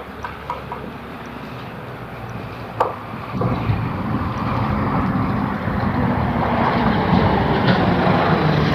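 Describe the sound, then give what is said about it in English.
A Staples delivery truck passes by on a street, its low engine rumble swelling after a few seconds and holding steady and loud through the rest, with no voices. “Staples delivery truck.”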